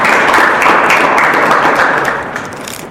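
An audience applauds a student from UEC college who answered a question, a dense, steady wash of many hands clapping at once, loud throughout and easing slightly toward the end. No one speaks.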